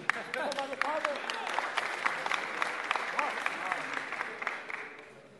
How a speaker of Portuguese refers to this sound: Página 7, uma salva de palmas